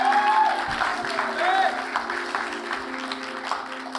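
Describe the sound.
Steady applause from an audience fills the room throughout, a dense wash of many hands clapping at once, with faint voices and a low sustained hum beneath it.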